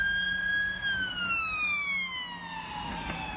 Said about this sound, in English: So think about when like an ambulance or a police siren goes past you, right? You hear the change in the pitch of the siren, right? It gets higher as it comes towards you and then it gets lower as it goes away from you.